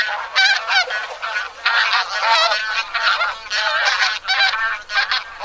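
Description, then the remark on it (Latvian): A flock of geese honks in the air, many overlapping calls layered into a dense, clamorous chorus that fills the whole stretch with barely a pause, fairly loud. “Ziemeļos kļūst aizvien augstāk un zosu bari, aizvien biežāk ir pamanāmi gaisā.”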